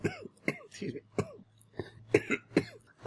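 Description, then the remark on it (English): A loud fit of coughing: about half a dozen harsh, rasping coughs in quick irregular bursts, with a throaty, voiced edge and brief pauses between them. “No, it won't take care of that at all, because it's a loud cough, and I'm dying while I'm performing it.”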